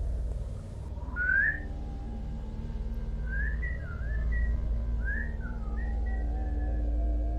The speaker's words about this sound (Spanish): Empecé a escuchar silbidos, lejanos.